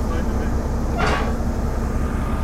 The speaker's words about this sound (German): hier auf dem Bahnhof in Seebruck rangiert eine rote kleine alte Diesellok. Einen offenen Güterwagen hat eben angesetzt.